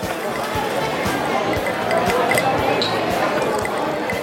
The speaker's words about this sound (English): But until we can all safely go out again, packed into those tiny loud spaces with the cocktail shaker shaking and the street noise rumbling and the strangers breathing, I'll leave you with this.